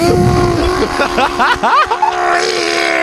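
A chainsaw engine drones steadily for about three seconds, with a burst of rising and falling revs in the middle before settling back to a loud, even buzz.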